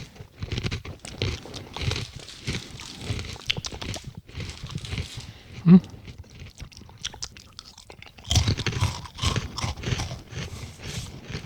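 Steady crunching of crisp tomato-salsa-flavored cheese crackers being chewed, with dense bursts of crackling bites that pause briefly midway before resuming just as loudly. No talking.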